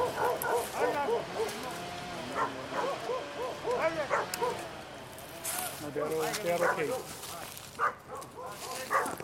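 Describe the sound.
Several dogs bark and yip in a continuous, overlapping chorus, loud, with men's voices calling out amid the barking as logging workers in a national park call the dogs back.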